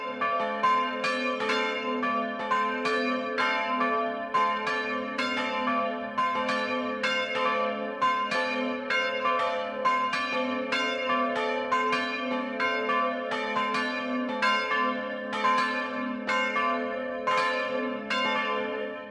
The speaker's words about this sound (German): Es ist 12 Uhr. Das Mittagsläuten kommt heute von der katholischen Pfarrkirche St. Michael in Throndorf im niederbayerischen Landkreis Landshut.